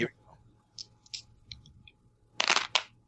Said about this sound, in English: All right. I'm rolling. Some of these dice